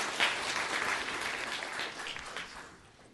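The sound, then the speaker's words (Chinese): Audience applause at a church gathering welcoming a guest speaker, a University of Hawaii professor: a dense patter of many hands clapping steadily at moderate volume for a few seconds, then thinning and fading out toward the end. “我们掌声欢迎他哈。”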